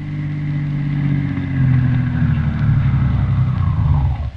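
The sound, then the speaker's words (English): A car engine rumbles, a steady low drone that swells slightly as the doctor's car pulls up in front of Windy Smith's house in River's End, then drops away abruptly at the very end. No one speaks. “Christian and Roy Davis, the druggist, in the doctor's car drawing up in front of Windy Smith's house.”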